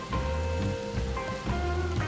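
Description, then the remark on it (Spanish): Steady rain falls in a dark stretch of forest on the outskirts of a city, a dense, even patter of drops on leaves and ground, moderately loud, with a faint sustained tonal hum beneath and no voices. “Está lloviendo, vamos a hacer silencio para que se escuche el agua.”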